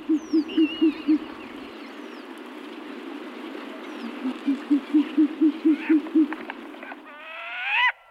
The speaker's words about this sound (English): But not to be outdone, the short-eared owl has to get in on the act.